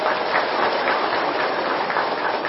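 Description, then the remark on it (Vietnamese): An audience, asked to give a big round of applause in cheer, breaks into loud, sustained applause, a dense and steady wash of many hands clapping that holds at an even level for the whole moment, with no voices heard over it. “Như vậy quý vị hãy cho một tràng vỗ tay thật là lớn để hoan hô nào.”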